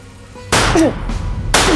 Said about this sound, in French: Elle lève son Smith & Wesson 9 mm, presse la détente du pistolet et tire 2 coups de feu en l'air pour s'assurer que l'instrument sait encore jouer de sa musique.